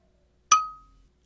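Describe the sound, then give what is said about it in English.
A single bright clink of glasses touching in a toast, sharp at first and then ringing out briefly with a clear tone before fading, alone with no talking. “So anyways, yeah, to our time together. Cheers, you big sweetheart.”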